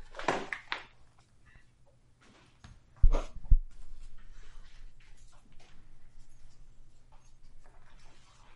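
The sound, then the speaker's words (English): A dog scrapes and paws at a door in a few short, scratchy bursts, with a couple of dull knocks against the wood partway through, then quieter shuffling noises afterward. “He's like scraping at the door when he doesn't.”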